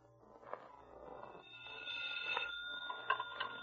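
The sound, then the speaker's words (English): A telephone rings faintly over a low steady hum, its warbling electronic tone repeating in short bursts with no voices present. “I just remembered I have to make a phone call.”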